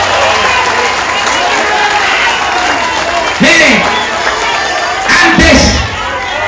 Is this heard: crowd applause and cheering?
yes